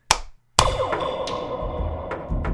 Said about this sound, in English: I'm going to give you three claps. I don't know if you need that, but just